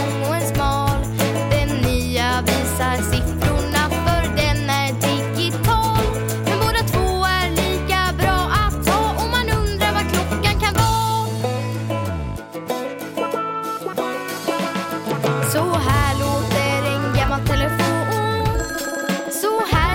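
The bell of an old clock rings loudly and almost nonstop for about twenty seconds, a dense metallic jangle that briefly dips past the midpoint, then carries on with no voices.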